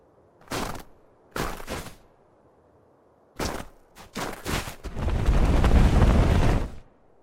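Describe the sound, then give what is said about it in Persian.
Loud snow crashes down in a series of heavy, booming thuds, then a sustained roaring rush of snow for about two seconds before it stops. No one speaks. “این بلندترین صدای برفیه که تا حالا شنیدم.”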